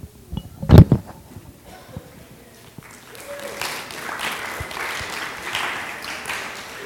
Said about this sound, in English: you do like a two-minute announcement, you get applause. I stand up here every day. I don't ever get any applause.